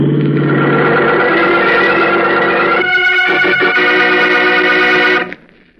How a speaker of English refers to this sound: What the? Look out for that car, Howard. Holy smokes, he'll be killed. Howard, look out!